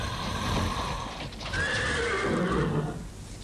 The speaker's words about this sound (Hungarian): Végre megjött a kocsis. Hozza a lovakat. Az ablakból jól látom a holdvilágnál. Négy ló.